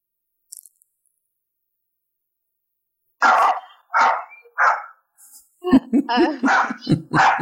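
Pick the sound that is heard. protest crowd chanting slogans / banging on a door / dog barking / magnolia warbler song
dog barking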